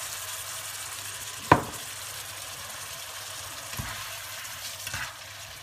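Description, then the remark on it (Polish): Steady sizzling of a mixture with parsley, lovage, chives and a little water frying in a pan, a continuous hiss with a sharp clack near the start and a few softer knocks later, no voices. “Niech to się przysmaży dobrze.”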